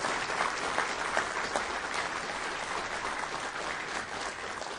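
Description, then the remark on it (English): A crowd applauds steadily, dense clapping filling the whole stretch at an even, fairly loud level without rising or fading, with no voices standing out. The applause is for Mike Sprayberry, who leads the emergency operations team. “Y'all need to give him a round of applause.”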